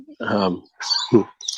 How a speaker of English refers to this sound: See, even got the neighbor's dog helping me here.